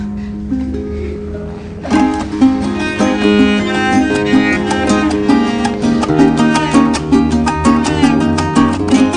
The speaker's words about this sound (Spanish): La Pulga y el Piojo que acabamos de escuchar es una grabación en vivo